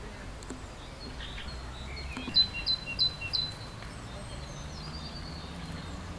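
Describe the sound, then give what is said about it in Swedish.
A male great tit, one of a pair that has found a small nest hole in a tree trunk, gives a short burst of bright, high calls to mark the nest site, four or five quick notes near the middle, clear but not loud against a steady outdoor background hum. “Här står jag nu precis nedanför ett talgoxepar som förmodligen har hittat ett litet bohål i en trädstam.”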